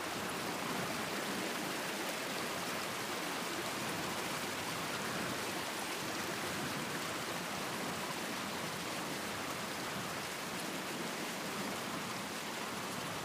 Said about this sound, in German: Am Ende dieser Teichlandschaft sammeln sich die Bächlein zu einem Kanal, der nach einigen Metern in einen kleinen Wasserfall einen Hügel hinabstürzt.